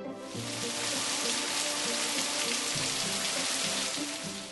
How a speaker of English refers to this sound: Whew, I got home before it started raining. Thank goodness. Yeah, the rain came really fast.